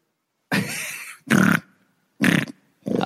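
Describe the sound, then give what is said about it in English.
A hog on a farm grunts four times in quick succession over the phone, the snorting bursts loud with a slightly thin, phone-like quality, separated by short pauses. “That's you for sure. All right. Pass it to the next pig.”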